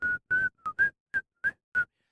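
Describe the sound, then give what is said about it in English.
A person whistles with the mouth: seven short, breathy notes at a steady mid pitch, each with a rushy, airy edge and brief gaps between them. It is fairly quiet, with no talking. “Really can't whistle that as well either.”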